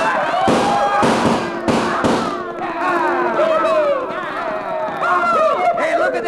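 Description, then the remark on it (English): Several loud, sharp six-gun shots crack in quick succession, then give way to the steady rumbling roar of cattle herds, lined up about eight abreast, stampeding at a dead run through a pass toward a barricade, with bawling and whooping cries rising and falling over the din. “And then, with one wild whoop and the echo and roar of 6 guns, we started those cattle toward the barricade at a dead run.”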